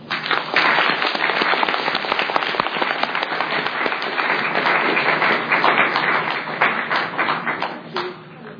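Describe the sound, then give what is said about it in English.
Sustained audience applause for panelists receiving a gift at an NCCBA event, a dense wash of many hands clapping at steady loudness for several seconds, tapering slightly near the end. “I thank you very much and give them big applause.”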